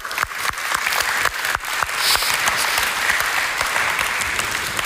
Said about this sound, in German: Applaus für das Kommunikationsteam.